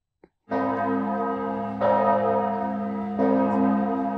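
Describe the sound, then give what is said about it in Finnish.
A church bell tolls slowly as a death knell, three deep resonant strikes about a second and a half apart, each ringing on and overlapping the last, with no voices. “Mä sanon, että se tarkoittaa kuolin kelloa ja kuuntelen nytten.”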